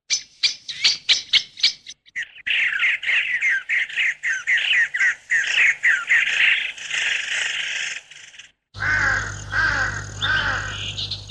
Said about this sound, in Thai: ฝูงวิหกนกกาเริ่มทยอยกลับสู่รวงรัง